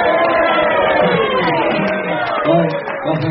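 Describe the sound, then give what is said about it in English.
An audience applauds loudly and steadily for a few seconds, the clapping blended with a dense wash of crowd voices and cheers, holding strong throughout without dying down. “Well, ladies and gentlemen, by your applause, you've said it all.”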